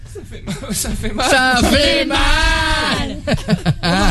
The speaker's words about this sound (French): Voilà, il en chie, il en chie. Oh, les cris de torture.